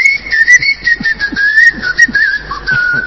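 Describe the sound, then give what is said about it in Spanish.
Someone whistles a steady, wavering tune for about three seconds to call someone, fairly loud, with no talking, only faint background noise beneath it. “Venía a chiflar acá arriba, dice.”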